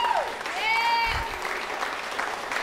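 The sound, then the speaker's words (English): A crowd applauds steadily for a few seconds, many hands clapping at once in a dense, even patter, with a brief high cheer rising over it near the start. “Give him a hand clap.”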